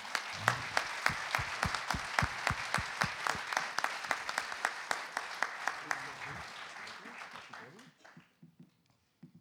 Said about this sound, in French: Donc, ça mérite un énorme applaudissement.